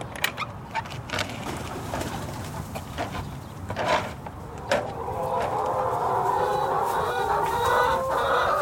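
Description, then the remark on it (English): Chickens cluck and murmur in a coop on a working farm, with scattered sharp calls early on and a steadier, fuller chorus of clucking building toward the end. “But I'm here for the chickens.”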